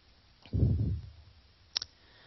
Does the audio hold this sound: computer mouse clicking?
yes